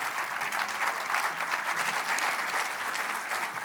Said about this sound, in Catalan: Un aplaudiment per ell.